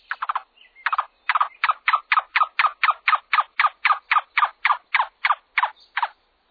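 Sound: cuckoo call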